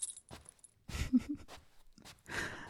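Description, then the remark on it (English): A few quiet metallic clinks and rustles as a leash clasp snaps onto a collar inside a house, with light jingling and shuffling between them. “Let me attach it to your collar.”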